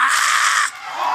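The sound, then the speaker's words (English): A single loud, shrill scream from a person bursts out for about half a second, then breaks off into a quieter, fading tail. “Now I might scream one time.”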